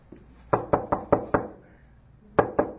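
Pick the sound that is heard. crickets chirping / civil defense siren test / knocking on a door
knocking on a door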